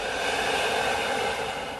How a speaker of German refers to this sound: Wir nehmen den zweiten tiefen Atemzug und atmen ein und wieder aus.